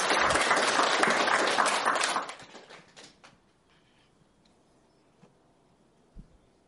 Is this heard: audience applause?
yes